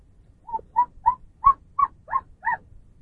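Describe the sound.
A voice imitates a monkey call with seven short, rhythmic hooting bursts, evenly spaced and fairly loud, rising slightly in pitch toward the end, with no other talking.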